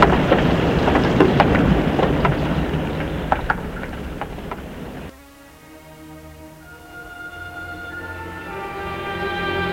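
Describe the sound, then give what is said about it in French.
Heavy rain hisses in the streets of Lyon, France, with scattered sharp drops spattering for about five seconds, then cuts to a quieter steady humming drone with faint tones. No one speaks. “Il pleut. Il pleut même beaucoup.”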